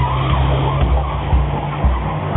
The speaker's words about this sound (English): Listen to the loud car. The loud car.